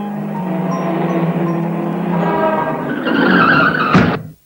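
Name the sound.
car tires skidding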